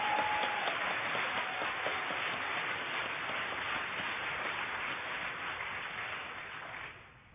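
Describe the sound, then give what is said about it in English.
An audience applauds in a steady, dense wash of clapping that holds at an even loudness for about seven seconds before tapering off at the end. No one speaks over it. “And so I want to give you another round of applause.”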